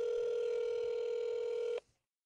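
A telephone call being placed to grandparents: one steady, buzzy electronic tone holds for nearly two seconds, then cuts off abruptly, followed by a brief hush and a tiny click.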